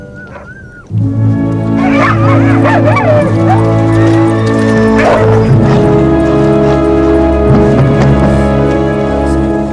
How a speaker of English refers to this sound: And keep her away from the dogs. They'll tear her to pieces if they get loose.